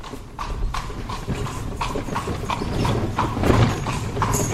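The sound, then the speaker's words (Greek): Hooves of a horse-drawn carriage clip-clop in a steady, even rhythm, crisp knocks repeating about twice a second over a continuous low rumble of rolling wheels. “Άμαξα!”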